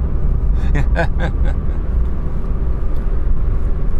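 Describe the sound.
A steady, loud low rumble of a car engine heard from inside the vehicle, droning evenly throughout, with a brief burst of muffled voice early on.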